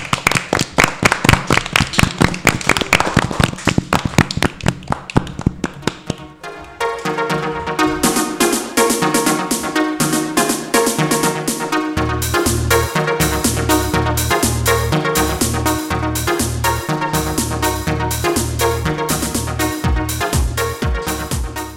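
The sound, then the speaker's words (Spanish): Loud, crackling audience applause fills the first few seconds, then fades as upbeat music with a steady thumping bass beat takes over. No one speaks. “Yo creo que se merecen esas personas un fuerte aplauso, ¿verdad?”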